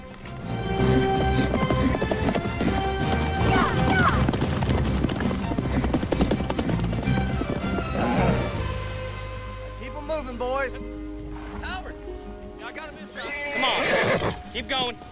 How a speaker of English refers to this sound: The black Mustang gallops away.